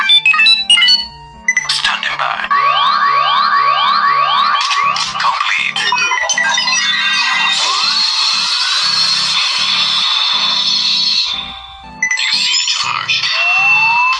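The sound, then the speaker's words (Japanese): A loud Kamen Rider Faiz transformation-belt sound effect played from a smartphone app: beeping tones, rapid rising synth sweeps, then a sustained bright electronic drone and a closing chime, with no talking. “アプリ入れても撮るもんな、スマホに。変身したろか、今。”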